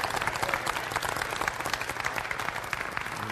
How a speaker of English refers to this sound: If you rejoice in that, give him a hand clap of praise for Jesus Christ. Hallelujah.